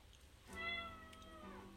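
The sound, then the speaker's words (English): A single drawn-out cat meow, starting abruptly and holding a steady tone before tapering slightly, fairly clear over a low background hum. “Our cat's here.”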